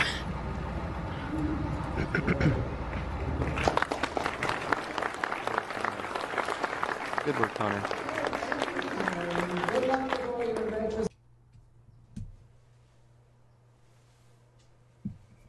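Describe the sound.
An audience claps steadily for about eleven seconds after a talk about radio station antennas, a dense, loud patter of many hands, while a voice speaks over it. The applause then cuts off abruptly, leaving a low hum and quiet.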